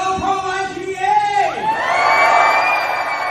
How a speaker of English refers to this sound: Listen to the energy of that crowd in Harrisburg. The Pennsylvania Family Institute partnered with the March for Life to unite men, women, and children on the steps of the state capitol to be a voice for the voiceless.